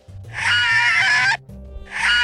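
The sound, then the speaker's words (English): A person imitates dogs howling in a scream they recorded while having a cold, played from a phone: a loud, high, strained wail held for over a second, a brief break, then a second howl starting, with a low rumble underneath. “All the dogs in the neighborhood are howling. You know, I can scream in a similar way, but I have to have a cold.”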